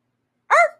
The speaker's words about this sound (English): This bark.